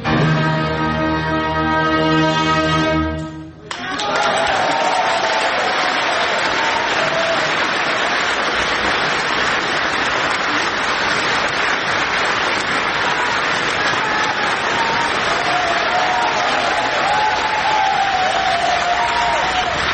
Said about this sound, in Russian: И вот сейчас 3-й год мы ездили в Германию с этим туром. 69-й фестиваль международных юных исполнителей. Там, конечно, если бы мы дали все весь этот фрагмент, где просто аплодируют, не останавливаясь, публика, да, вот давайте послушаем, как это было.